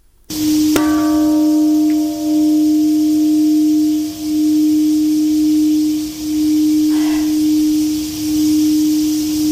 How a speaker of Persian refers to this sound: زنگ‌ها در شهر هیروشیمای ژاپن روز پنجشنبه به مناسبت 75مین سالگرد انفجار اتمی در این شهر به صدا درآمد.